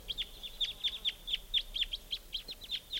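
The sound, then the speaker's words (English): Crossbills calling from a flock, a steady series of sharp, high, repeated kip notes, many overlapping, coming roughly several per second with no voices over them. “And joined by another flock, so there could be as many as 10 birds coming around here.”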